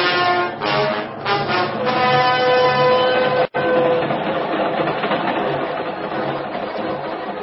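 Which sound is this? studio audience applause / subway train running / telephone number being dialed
subway train running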